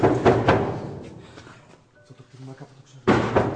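A man knocks heavily a couple of times on an open wooden door, followed by a fading rumble and quieter background activity before another loud burst at the end.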